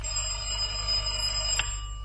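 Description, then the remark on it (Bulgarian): A doorbell rings steadily late in the evening for about two seconds, a sustained bright bell tone at moderate volume with a brief click near the end, no voices present. “ти забравяш, че на вратата се звъни.”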